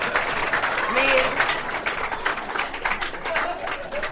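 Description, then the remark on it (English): An audience applauds with steady, dense clapping that holds at an even level throughout, with a few voices and a brief rising call mixed into the crowd. “Don't clap, just buy me brandy, I'm quite happy.”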